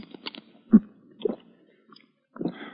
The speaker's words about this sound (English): Here. Sip a little water through this glass straw.